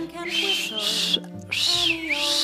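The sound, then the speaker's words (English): A champion whistler whistles a clear, high melody with smooth gliding notes, fairly loud, with a brief pause midway and soft sustained tones underneath. “You just put your lips together and blow. Anyone can whistle, that's what they say.”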